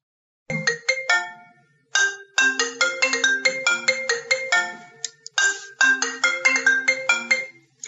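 A phone ringtone plays a bright, repeating electronic melody in three loud bursts separated by brief pauses, clear with no voices over it; it is an incoming call from the phone owner's wife.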